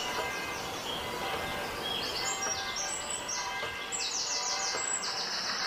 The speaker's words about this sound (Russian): Обратите все свое внимание на этот конкретный звук. Направьте внимание на звук криков птиц. И сконцентрируйтесь на нем. Усиленно сосредоточьтесь на звуке криков птиц.